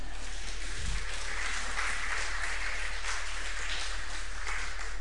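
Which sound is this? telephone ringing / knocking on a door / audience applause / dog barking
audience applause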